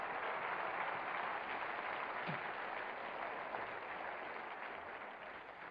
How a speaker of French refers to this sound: Et j'aimerais que vous puissiez applaudir pour la francophonie, tout ce que Dieu peut faire. Saluez la francophonie un moment.